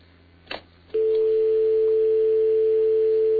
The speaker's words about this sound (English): You hear that? That's a dial tone.